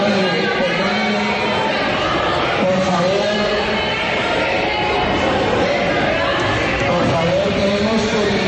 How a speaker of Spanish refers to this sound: El debate fue subiendo de tono con las acusaciones que hacía el senador Iván Cepeda al expresidente Álvaro Uribe Vélez. En un momento, estos eran los gritos que se escuchaban en el salón elíptico del Congreso.